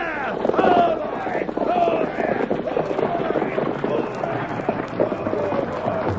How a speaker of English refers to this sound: Pull up the horses.